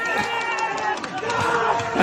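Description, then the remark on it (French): Waiters, kitchen assistants, diners and chefs of a restaurant screaming with joy as they learn their restaurant is ranked number one in the world, many high, overlapping voices shrieking and cheering at once, loud and unbroken for the whole two seconds. “Alors voilà, ce que vous entendez, ce sont les hurlements de joie des serveurs, commis, clients et chefs lorsqu'ils apprennent que leur restaurant est numéro 1.”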